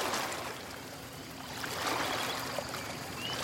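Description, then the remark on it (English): Atlantic breakers wash steadily onto a long sandy beach, a soft continuous hiss of surf that swells a little midway and then eases, with no voices or other sounds. “There's just you and the person that you love, and the sand and the sea.”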